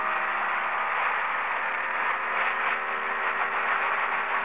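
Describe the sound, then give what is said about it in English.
A steady, unbroken roar like a speedboat engine running flat out, loud and hissy with little low rumble, holding an even level throughout with no voices. “That sounds like a speedboat of some sort.”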